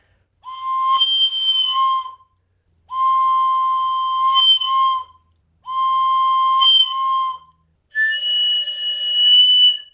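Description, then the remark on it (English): Four sustained whistle blasts, each about two seconds long, with separated gaps between them. Each blast holds several stacked tones at once, giving a bright, chord-like, slightly breathy sound. “An example of a whistle, but they would make them so they would have double or triple tones.”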